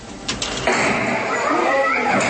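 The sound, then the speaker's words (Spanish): A criminal gang leader forcing open the door of a house to get in and take the family out by force: a couple of sharp impacts followed by a heavy crash, then a sustained loud, noisy commotion with indistinct voices mixed in. “el jefe de una banda criminal, rompe la puerta para ingresar a una casa y sacar a la familia a la fuerza.”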